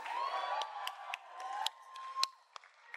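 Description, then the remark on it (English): Sharp, punchy claps ring out close to a microphone, about a dozen irregular hits with one especially loud smack, over a steady bed of crowd cheering and whooping. “Someone's clapping too close to their mic.”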